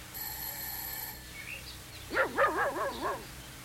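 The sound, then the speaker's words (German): A doorbell mounted on the wall beside the front door of a white house rings with a steady, bright electronic tone for about a second, then the dog Hasso breaks into a burst of four or five quick, loud barks. “es klingelt”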